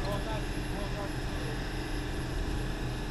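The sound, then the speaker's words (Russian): A motorboat carrying a group of pilgrims from Russia to Mount Athos drones steadily and loudly, a continuous low rumble with a broad hiss of rushing water and wind layered over it, never letting up. “На одном из таких катеров вместе с группой других паломников из России я еду, наконец, на остров.”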